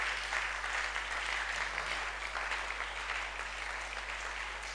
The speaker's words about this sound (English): So gradually we stayed in the faith and God has brought us this far. Can we clap thanking God for our lives?